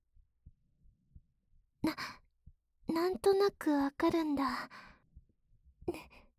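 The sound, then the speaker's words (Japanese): Soft, steady heartbeat thumps pulse low throughout, clearest in the pauses, while a girl speaks breathily over them with a sigh-like tone; the heartbeat is her own, pounding. “でも、兄さんになら、私の鼓動伝わってもいいかな。”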